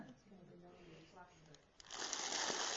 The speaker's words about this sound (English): So what it in fact is, some slightly squashed cornflakes. Sorry about the lack of Maltesers.